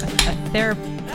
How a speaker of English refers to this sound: Why were you so distracted by me cracking open a refreshing cheer wine? It was a very loud, like I felt like it was, you intentionally held your can of cheer wine very close to the microphone as you opened it.